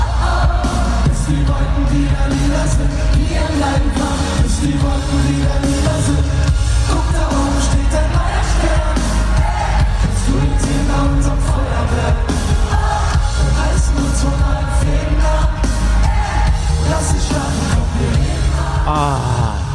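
A loud, sustained roar of a concert crowd, with yells, whoops and shouts piling together into a dense wall of cheering that holds steady for about twenty seconds.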